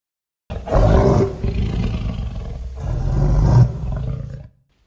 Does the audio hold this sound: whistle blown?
no